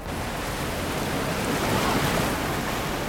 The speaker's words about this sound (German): Also hier fließt gerade sehr viel Wasser runter. Wir stehen auf einer Brücke und unter uns ist direkt der Auer Mühlbach. Viel Wasser auf wenig Platz und da sieht man einen sehr großen Druck auf jeden Fall.